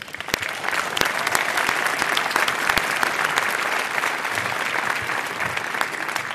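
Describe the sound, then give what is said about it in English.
Steady applause from a sizable audience welcoming a speaker to a talk about climate change, many hands clapping densely and evenly for several seconds at a moderate, sustained level, with no one speaking over it. “Please give her a welcome applause.”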